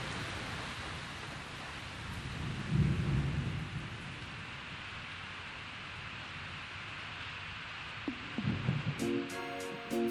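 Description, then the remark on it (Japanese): Heavy rain suddenly starts pouring at a reservoir pond in Minodani and hisses throughout, while loud, low, rolling thunder rumbles twice, a deep swell near the start and another toward the end. No voices are heard. “すると急に大きな雷とともに雨がザーザー降り出し、瞬く間に大きなため池が出来上がりました。”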